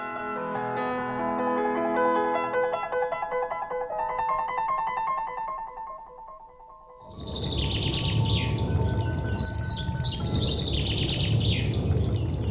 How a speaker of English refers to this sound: Thrush, is it?